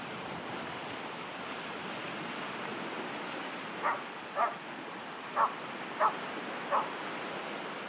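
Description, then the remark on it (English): A sheepdog barks five times in short, sharp bursts over the steady roar of waves breaking on a beach. No one speaks. “In terms of stuff washed up, oh dear, there's a dog with it.”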